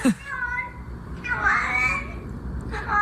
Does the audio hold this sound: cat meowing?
yes